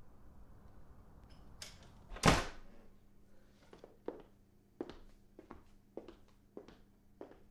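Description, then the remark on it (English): A single loud, heavy thud at a front door, then a string of lighter, evenly spaced taps or knocks over a quiet background, with no voices. “That's him at the door. I bet he's forgot his key.”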